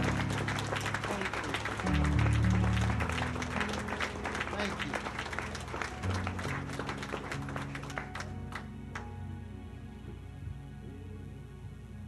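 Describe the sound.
A church audience claps for the Lord in a sustained, dense burst of applause with sustained low organ-like tones underneath, the clapping thinning out toward the end as a voice briefly speaks.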